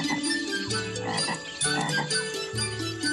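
A dense chorus of frogs croaking steadily, several overlapping calls forming a continuous, rhythmic throb that stays loud throughout, with no one speaking.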